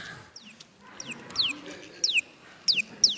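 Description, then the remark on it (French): A bird calls repeatedly with short, descending whistled notes, growing clearer and louder over a faint background murmur, the calls coming in a steady series of quick bursts. “Des fois, quand je ne sais pas très bien, je vais demander à l'oiseau.”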